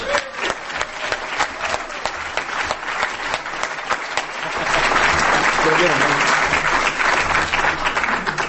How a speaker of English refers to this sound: So next up, and I'd like you to outdo yourselves on the applause this time